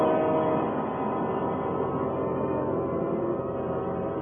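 A subway train roars steadily through a tunnel, a loud, continuous low rumble and rattle that holds at a constant intensity for several seconds with no voices.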